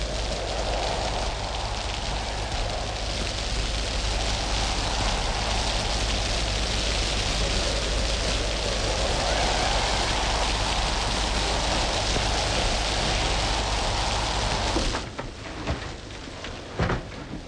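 rain falling

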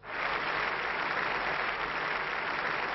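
applause in parliament chamber

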